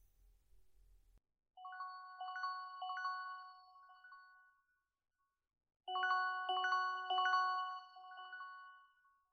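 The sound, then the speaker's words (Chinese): A phone ringtone for an incoming call plays a bright, electronic melody in two bursts of about three seconds each, separated by a short pause. It is fairly clear, with no voices. “这个时间打来电话。”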